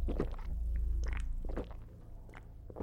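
Heavy gulping of a drink, close up: a series of wet, throaty swallows repeating every half second or so over a low rumble, with no talking.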